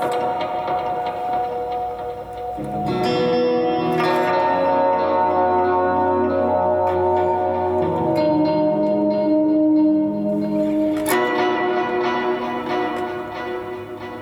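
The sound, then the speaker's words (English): Processed electric guitar notes through an effects preset with an octave effect and echo, ringing out in layered, bell-like sustained tones that shift every few seconds; steady and fairly loud, with no talking. “And this is like a, I don't know, octave-y thing.”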